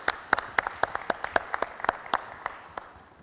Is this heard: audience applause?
yes